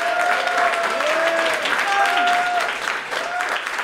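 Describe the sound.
Steady, dense audience applause at a stand-up comedy show fills the whole four seconds at a constant loudness, with a few high whoops and cheering voices rising over the clapping.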